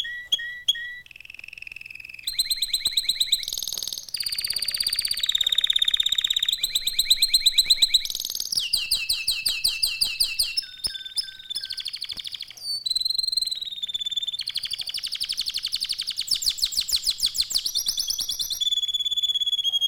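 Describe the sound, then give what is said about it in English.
A warbler canary, a combination of roller and chopper, sings a long, continuous warbling song, shifting between rapid trilled rolls, choppy repeated notes and clear ringing bell-like tones, loud and bright throughout with no voices. “Listen to his roll, chop, warble, and liquid-like bell notes and cadenzas.”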